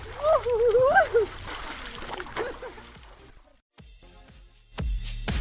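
Water splashes and sloshes as women bathe in a lake, with voices calling out over it at first, then a brief lull before a few more bursts of splashing.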